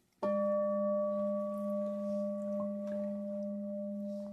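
A meditation bell is struck once and rings out alone, a pure, steady tone with bright overtones that hums and wavers gently as it slowly fades.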